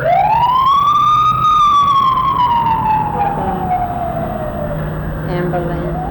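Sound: emergency vehicle siren passing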